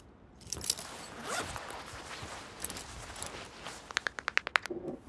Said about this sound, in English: pulls his ear away from the closet door, cramming more cereal into his mouth, crunching loud enough to hear nothing except what he wishes he was.